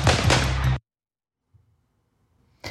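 A man fires a handgun: a loud, sharp blast rings out at the start and quickly gives way to near silence with faint low rumble, before another abrupt shot cracks at the very end.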